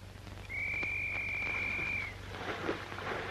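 A single steady, high-pitched whistle blast rings out for about a second and a half over a low background hum, then cuts off, leaving faint rustling noise.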